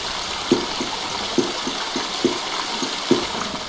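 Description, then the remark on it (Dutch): A tap runs very gently in a soft trickle rather than a strong jet, giving a steady, gentle hiss of water, while faint low thumps recur regularly about once a second underneath. No one speaks. “En ik laat het water, en dan bedoel ik het dus heel zacht, ja. Dus niet een felle straal erop, een zacht straaltje.”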